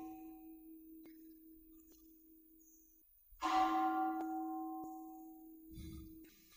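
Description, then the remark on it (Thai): A meditation bell is struck once, its bright attack opening into a long, steady hum with shimmering overtones that slowly fade. Before the strike, a soft lingering tone from an earlier ring hangs in the quiet. “ลองฟังเสียงระฆังแล้วดูซิจิตไหวไหม”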